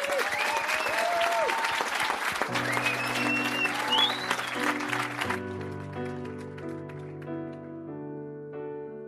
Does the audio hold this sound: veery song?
no